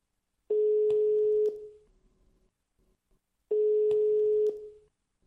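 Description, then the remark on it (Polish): A steady telephone ringback tone sounds in two long beeps, each about a second, separated by a pause, clear on the line with no talking, as a phone call connects to the parish priest in Cieszyn, Poland. “Spróbujmy zatem połączyć się teraz przez telefon z cieszyńskim proboszczem”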